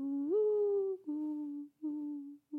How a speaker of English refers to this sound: I also have always wanted to bring the morning dove and that sound into something that I was doing because it's my favorite call. Mm. So that call sounds so mournful and also hopeful.